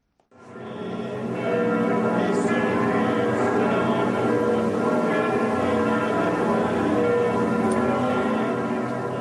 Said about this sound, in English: From village churches to Saint-Sulpice in Paris, the sound of bells was everywhere.